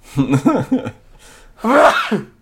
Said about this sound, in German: Sekunde, gut, ich muss mal kurz niesen, ist kein Corona.